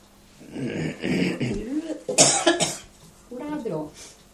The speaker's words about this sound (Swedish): Ja, jag hostade lite grann.